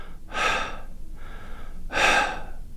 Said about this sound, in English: And I looked over thinking, is there something wrong? And I thought, no, he's just sitting there breathing normally. But it wasn't normal breathing. It was labored breathing.